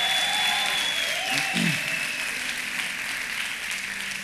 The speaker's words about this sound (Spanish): Estás justificado. Estás limpio. Si crees eso, dale un aplauso a Él.